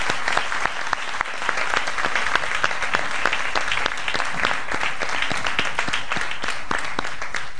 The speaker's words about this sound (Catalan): Bé, un aplaudiment per ells.